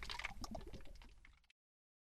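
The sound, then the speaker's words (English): Crinkle of a plastic water bottle being opened, followed by liquid sloshing inside for about a second and a half before the sound cuts off to silence. “This is why, folks, we open our water before we start.”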